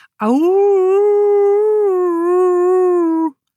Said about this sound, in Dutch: Maar wat was dat? Het leek wel of Boutje nog een wolf hoorde. Eén met een diepe, zware stem.